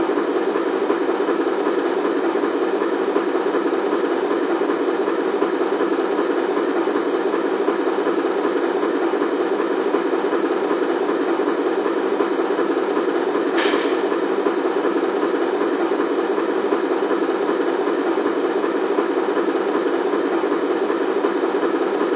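A steady, unbroken diesel rumble of a train idling in a rail yard fills the whole stretch, loud, with one brief click or clank partway through and no voices.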